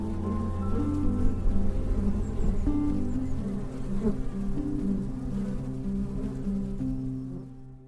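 A dense swarm of bees buzzes steadily, a layered droning hum with shifting pitches that continues throughout before fading slightly at the very end.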